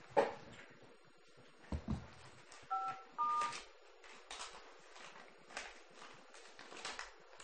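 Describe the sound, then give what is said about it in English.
Two short telephone keypad tones beep in quick succession, dialing star 5 to record a board meeting call, clear amid soft rustling, handling clicks and a low background hiss. “You just have to do like star 5 or something like that. Okay, that's on the phone.”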